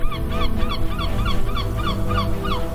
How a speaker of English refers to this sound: The sun is coming up. Boats are moving up and down in the cool sea breeze. Seagulls flying over the beach.